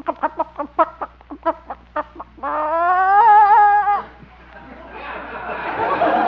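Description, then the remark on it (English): A hen gives a quick run of about a dozen sharp clucks, then a long, wavering, drawn-out squawk, followed by a rustling scuffle, as a person reaches in under her to get an egg. “Guess I should have worn my chicken inspector badge. Well, guess I'll have to reach in under. Yeah, steady, girl.”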